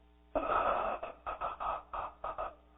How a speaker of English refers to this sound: Now, they took a little bit more breath than I did. They inhaled until they got to about 20 seconds. And then they begin to exhale.